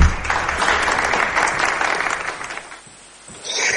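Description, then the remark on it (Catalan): A crowd applauds a performer introduced on a stage, with dense, crackling clapping that holds strong for about three seconds, dips briefly, then swells again at the end. “Aplaudir un poquito, coño.”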